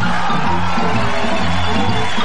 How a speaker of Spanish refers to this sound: Le damos un aplauso a los actores.